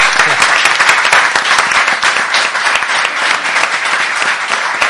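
An audience applauds steadily for about five seconds, a dense, loud wash of many hands clapping at once with no pauses, welcoming guest a guest, a YouTuber and comic author, onto a show.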